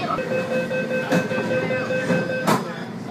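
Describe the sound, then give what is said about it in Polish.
A Hong Kong city metro train rolls along the rails with a steady droning hum, sharp periodic clacks marking the track joints as it travels at a constant pace, on a half-hour ride from the city centre to the border with China. “metro to oczywiście najtańsza opcja”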